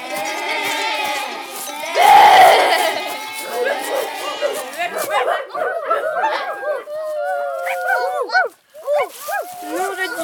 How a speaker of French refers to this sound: Les chiens aboient.